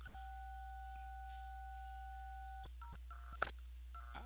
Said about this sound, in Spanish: ¿Aló? ¿Aló, me escucha? Sí, está topando la pantalla de su celular y se está marcando las teclas.